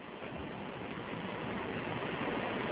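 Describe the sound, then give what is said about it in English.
A steady, dense rush of water fills the whole moment, like churning splashes and bubbling as a camera in an animation plunges beneath the ocean surface toward hydrothermal vents, fairly loud and unbroken, with no voices. “Splashing beneath the ocean, we come across the recently discovered hydrothermal vents, where life may well have originated.”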